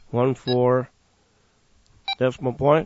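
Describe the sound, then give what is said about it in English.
A series of short electronic keypad beeps from a handheld radio as the frequency 14250 is entered in VFO mode, two close together, a pause, then several more in quick succession, buzzy and fairly loud, with a slightly longer beep for the zero. “There's a slightly longer beep for the zero.”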